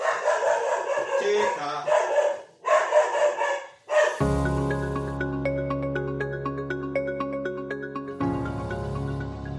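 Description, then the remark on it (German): A dog running to the front door barks and yips in a few loud, rapid bursts, then the doorbell rings with a sustained electronic chime of several steady tones for several seconds. “Jetzt läuft sie gerade zur Tür. Und jetzt hat es eben geklingelt.”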